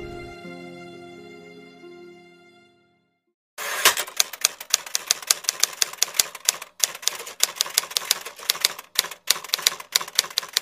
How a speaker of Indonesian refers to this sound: Suara mesin tik bagai jarum menusuk-nusuk kulit.